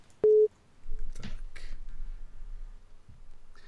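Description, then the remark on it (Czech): A short, loud electronic tone sounds once near the start as a listener's phone call connects to a live call-in program on Svobodné rádio, followed by faint line noise and brief clicks. “Máme telefon. Tak, já jsem zvědavý, kdo nám to bude volat.”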